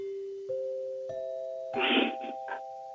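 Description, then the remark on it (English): A railroad dining-car dinner chime from the golden days of American railroads plays three rising bell notes in steady succession, each ringing on and overlapping the last, while brief rustling bursts break in near the end. “That is a dinner bell from an American Railroad's golden days.”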